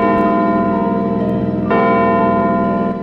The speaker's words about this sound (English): The clock strikes midnight.